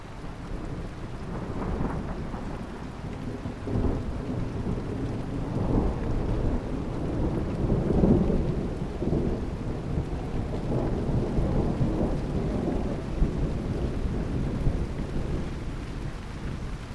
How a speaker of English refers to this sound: That was a long peal of thunder, wasn't it?